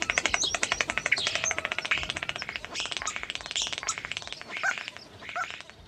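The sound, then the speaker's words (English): A starling sings among rusted old farm machinery, its whistles and chatter mixed with rapid, steady mechanical-sounding clicks and rattles that mimic a rhythmic non-bird noise, running continuously for several seconds. “Heard straight away that it just wasn't the usual rambling starling song, because these birds are great mimics, and it went into some other sounds which sounded familiar in that they had a strong rhythm to them, but it certainly wasn't a bird.”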